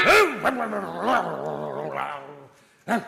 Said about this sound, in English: Shut it, dog. That's no way to treat a visitor.